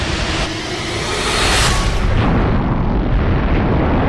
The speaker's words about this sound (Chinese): 在一片震耳欲聋的爆炸声中，木星的磁场消失了，顿时身边所有的星球互相碰撞，发出巨大的骇人的声响